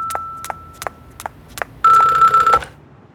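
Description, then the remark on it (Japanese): A telephone rings: a steady electronic tone pulsed by rapid rhythmic clicks, then a louder, harsher trilling burst that cuts off abruptly, leaving quiet. Clear, with no voices. “あら、電話だわ。”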